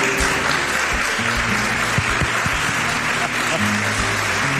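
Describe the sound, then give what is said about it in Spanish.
A steady, dense wash of audience applause and clapping fills the whole clip at full volume, with some cheering voices and musical tones mixed in underneath: an ovation for María Barranco as she enters a radio program. “Claro, ovación, ¿eh?”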